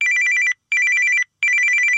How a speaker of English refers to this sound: But the phone rings.